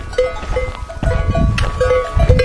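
A bell hung around a donkey's neck and dangling under its chin clanks in a quick, uneven rhythm as the donkey nibbles grass, over low rustling and outdoor noise, with no one speaking.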